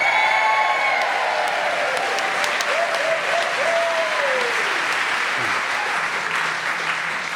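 audience applause and cheering

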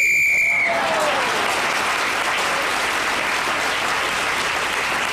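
referee's whistle blown

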